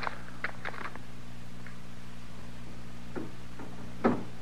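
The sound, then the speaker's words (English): A door rattles in short, irregular bursts of clicking and clattering, separated by pauses, with a louder jolt near the end over a steady low hum. No one speaks. “Is somebody working the door that way?”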